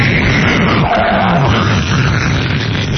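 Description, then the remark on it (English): A Concorde supersonic jet thunders overhead, a loud, steady, rumbling roar that fills the whole moment with dense noise and faint shifting tones, with no voices heard. “Goddamn Concorde!”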